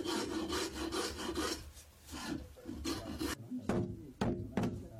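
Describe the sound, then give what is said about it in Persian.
Repeated rasping strokes of hand-polishing a wooden horse saddle, a steady back-and-forth rhythm, with a few sharper scraping strokes near the end; no talking. “سیقلکاری و تزیین زین اسب زمانگیر است”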